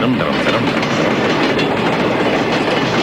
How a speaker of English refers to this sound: And, you know, you settle into that routine as the train rolls along.